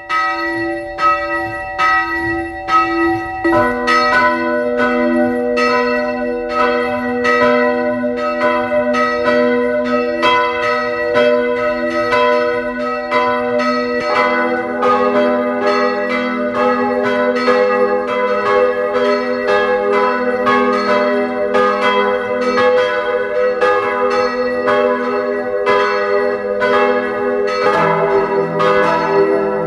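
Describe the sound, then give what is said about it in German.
Several church bells of the parish church of St. Margarethen im Rosental in Carinthia, Austria, peal together at noon in a continuous, overlapping ring, loud, their tones blending into a rich, sustained clangor with no voices present. “Sie hören die Glocken der Pfarrkirche St. Margarethen im Rosental in Kärnten.”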